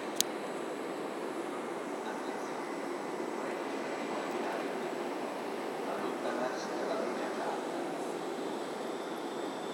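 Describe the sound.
A steady rumble of a train on the tracks holds an even loudness throughout, with a sharp click at the very start and indistinct voices murmuring beneath the noise.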